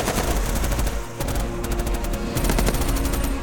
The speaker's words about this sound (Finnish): Eihän tämä niin paha ole, totesin puoli ääneen ammunnan paukkeen keskellä.